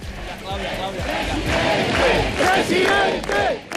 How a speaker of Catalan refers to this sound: Hi va haver ovacions i aplaudiments a favor de Feijóo al Temple de Devot a Madrid. La concentració ha comptat amb una gran quantitat d'assistents que mostraven banderes d'Espanya i que han exhibit pancartes en lemes com dimissió ja,